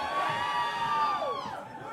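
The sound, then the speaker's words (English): A crowd cheers loudly and continuously, many voices whooping and shouting together in a dense, high-pitched roar that slowly eases off toward the end. “And this looks like the crowd that likes hotel music.”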